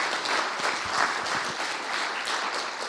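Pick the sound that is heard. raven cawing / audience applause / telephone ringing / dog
audience applause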